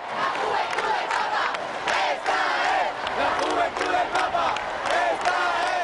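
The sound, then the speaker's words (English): A large crowd of pilgrims in Madrid chants together in unison, "This is the Pope's youth," while the Pope waits out a storm, a dense, continuous wall of voices rising and falling in a steady rhythm, loud throughout with no single voice standing out. “Instead, their voices rose as one in a continuous chant, "This is the Pope's youth."”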